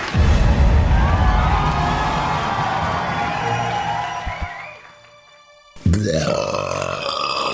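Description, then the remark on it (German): A loud, drawn-out burp in a parody film trailer rumbles for several seconds, raspy, then fades into near silence before another abrupt, harsh burst of sound follows. “eines Rülpsers.”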